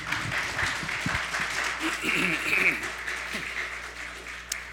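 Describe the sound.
An audience gives a person a round of applause, clapping steadily for a few seconds in a broad, fairly even wash, with some faint voices mixed in underneath.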